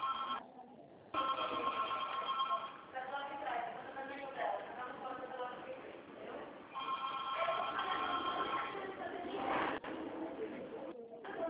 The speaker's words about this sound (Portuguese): Hoje esse telefone tá tocando muito hoje.